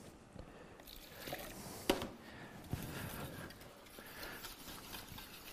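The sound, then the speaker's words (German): Water sloshes and trickles steadily as excess liquid is poured off cooking food, with a couple of brief knocks from the pot partway through and no talking. “Ist aber nicht schlimm, das kann man ein bisschen abschütten.”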